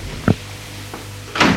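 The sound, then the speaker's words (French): A knock on a door: one solid thump, then a much fainter second tap, followed by a short, brighter rattling burst. There is no talking. “On a frappé à la porte.”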